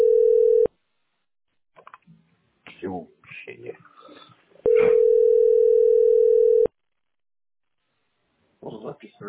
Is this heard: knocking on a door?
no